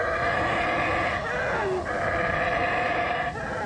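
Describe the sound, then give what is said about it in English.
Black howler monkeys howling in a forest on an island, in a steady, layered chorus of deep roaring calls that drone on without pause, loud throughout, with no talking. “They're black howler monkeys.”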